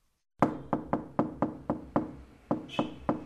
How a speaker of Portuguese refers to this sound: bate à porta do seu vizinho